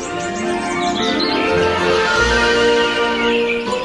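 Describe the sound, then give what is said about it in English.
Several birds sing and chirp at once in a dawn chorus, a dense, continuous chorus of high, overlapping warbles and tweets, lively, with a low background rumble and no voices. “Since I came to live here in Ireland, one of the things I notice and I really like is the birds singing.”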